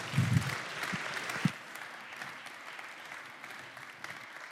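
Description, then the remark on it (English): An audience claps to welcome guest speaker John Harima with an 'Oklahoma clap'. A dense patter of many hands starts with a few louder claps, then settles into steady, moderate applause for several seconds. “So if you would, just welcome John Harima, maybe with a little Oklahoma clap, and I think you'll enjoy these stories.”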